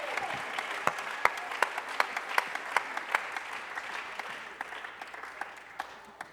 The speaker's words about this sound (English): somebody clap your hands all over alguien this aplaude sus manos.